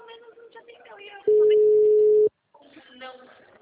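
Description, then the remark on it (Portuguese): A single loud, steady ringback tone from an unanswered phone call to a client sounds for about one second, flat and mid-pitched. Speech runs before and after it. “É engraçado que eles não atendem o telefone.”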